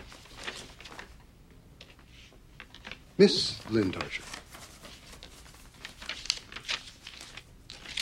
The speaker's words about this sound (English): She offers him a folded sheet of paper. Considering her, he steps forward. Unfolding the paper, he reads.